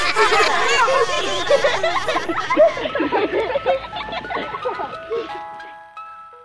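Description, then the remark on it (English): A lively crowd of children chatters and giggles, then fades as a tinkly jingle from a wild salmon truck plays its simple melody, drifting past as the voices die away. “Except when the wild salmon truck goes by.”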